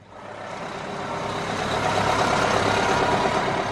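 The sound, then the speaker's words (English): Tour bus engines idle steadily, lined up at a cruise ship dock in Juneau, Alaska, as the first cruise passengers of the year walk down a ship's ramp; a dense rumbling drone that swells slightly and then holds, with no voices present. “Tour buses line up as the first passengers of the year walk down the Carnival Spirits ramp to one of Juneau's cruise ship docks.”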